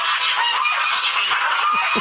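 A gaggle of geese honks loudly and continuously as they come for a woman walking out of her house, many overlapping nasal calls forming a dense, raucous chorus with no pauses.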